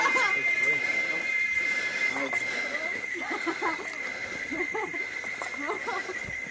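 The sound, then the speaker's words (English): Busy village ambience while walking up a dirt road, with steady background noise, scattered voices and chatter, a high whining or squealing tone running throughout, and intermittent clatter and animal-like calls; dogs are everywhere. “I just thought I'd let you hear the sounds of the village as we walk up this dirt road.”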